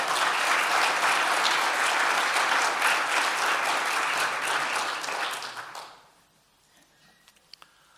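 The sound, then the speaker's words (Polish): Loud, dense applause from an audience, given for the Lord, claps steadily for about six seconds, then fades quickly into near silence with a couple of faint clicks. “Oddajmy oklaski dla naszego Pana.”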